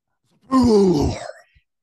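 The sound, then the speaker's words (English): A voice imitates missiles exploding as Cap puts his shield up: a single loud, drawn-out explosion noise, a throaty rumbling burst that slides downward in pitch over about a second before trailing off. “And the missiles come over top of them, and Cap puts his shield up, and it makes a loud noise. Explosion”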